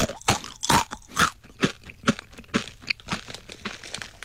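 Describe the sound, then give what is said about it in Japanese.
Someone crunches through crisp, seafood-flavored kakitane rice crackers with no peanuts, a steady run of about a dozen sharp, brittle bites spaced roughly a third of a second apart, with no talking. “ああ、柿ピーではないから、柿種だからなんだ。”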